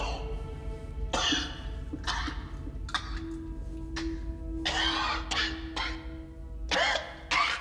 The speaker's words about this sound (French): … se met à tousser.